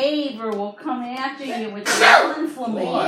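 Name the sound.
sneeze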